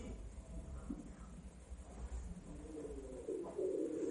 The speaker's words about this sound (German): Stattdessen wird diese komische, kreischende Gans noch lauter.